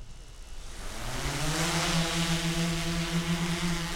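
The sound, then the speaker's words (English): Drone propellers spin up with a rising whine as a drone is launched beside a hiking trail lined with pine trees, then settle into a loud, steady, harmonic buzz over a broad rushing noise. No one speaks. “Today, he launches one of his devices and then lets Becky put on the drone goggles.”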